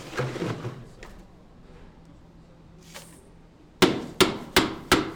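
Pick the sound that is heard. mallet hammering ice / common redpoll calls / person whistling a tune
mallet hammering ice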